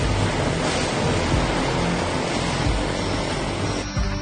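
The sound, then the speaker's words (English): A float plane touches down on water: a loud, continuous rush of spray and surf blends with a droning propeller engine, heard for a few seconds with no voices. “Going to be touching down right now. There's no water over by Collins, right? Yep. That's how you land the float plane.”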